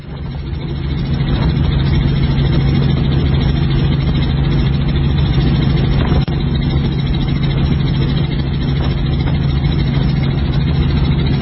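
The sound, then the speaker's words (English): A steady, loud engine drone hums throughout, deep and continuous like many boat motors running together, with a constant low rumble and no voices; the engines of a boat parade, heard during an aerial flyover passing over the top of all the boats. “Let's play long shot of boat parade with audio.”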